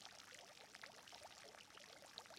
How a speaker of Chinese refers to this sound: 这里是气泡池，具有缓解疲劳、增强精力的作用。